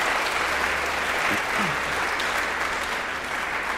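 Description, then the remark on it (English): Steady audience applause with many hands clapping at once, a dense, even wash of claps that holds at a constant loudness for several seconds with no voices over it. “Oh yeah, give him applause. Applause.”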